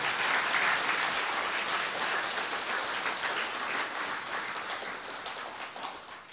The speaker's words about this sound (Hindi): तालियां तो बजाओ जरा।